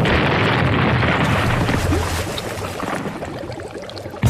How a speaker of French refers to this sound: Et lorsque le scénario l'exige, elle n'hésite pas à faire exploser de vrais bateaux.